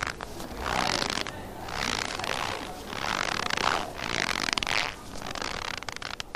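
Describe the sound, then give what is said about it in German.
Four steady crunching squeezes, each about a second long with short gaps between, like slow footsteps trudging through snow, made by pressing a small sack of flour at a sound-effects workshop. No voices. “Zum Beispiel mit einem Mehlsäckchen wurde uns gezeigt, dass man damit in den Schnee stapfen könnte.”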